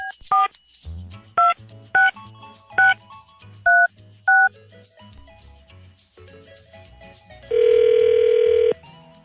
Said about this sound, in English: Call him back right now. Okay. And we're dialing.